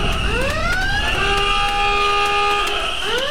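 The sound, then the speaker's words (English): A buzzer pressed on BBC Radio 1 for best thing of 2017: a loud electronic buzzer blares, its pitch sweeping upward, holding a steady siren-like horn tone for a couple of seconds, then sliding again at the end. “I think we all probably need to press our buzzer now for best thing of 2017.”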